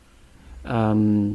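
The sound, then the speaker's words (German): A voice imitates the creaky, wrenching sound of a chicken wing joint being twisted apart, like pulling off a drumstick while eating: one loud, strained drawn-out vocal noise lasting under a second, after a quiet start. “als würde etwas wie wenn man einem Hühnchen den Flügel so rausdreht, also so den die Keule beim Essen.”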